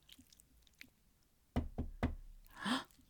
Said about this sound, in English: He just knocked on the wall.